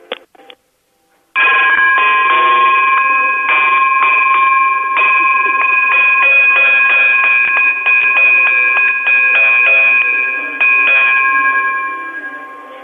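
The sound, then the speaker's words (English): A telephone rings continuously for about eleven seconds, a loud, rapidly trilling electronic ring with steady high tones that fades slightly at the end, preceded by a brief click. “I need it to ring for at least a minute, like continuously.”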